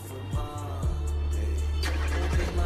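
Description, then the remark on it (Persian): A car drives along with a steady, loud low engine rumble and road noise, a brief whooshing swell partway through, and no voices. “تو ماشینه، داره میره.”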